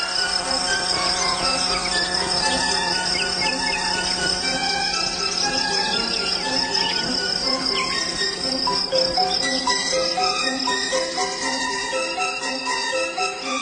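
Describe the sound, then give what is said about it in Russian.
A fly buzzes steadily for the whole stretch as it flies out through a window, a dense, droning hum with a slight wavering texture and no voices over it. “Когда тетя Оля велела выставить все зимние рамы, и Аленушка выглянула в первое открытое окно, последняя муха сразу все поняла. «Теперь я знаю все», – жужжала она, вылетая в окно.”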